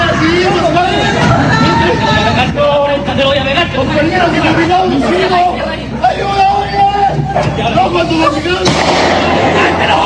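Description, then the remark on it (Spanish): Loud, chaotic robbery scene of agitated shouting voices of a woman and a man, punctuated by several sharp gunshots fired by the robbers at a vehicle, cracking through the commotion, with one especially strong bang near the end. “Algo que los ladrones omitieron, realizaron los disparos igual.”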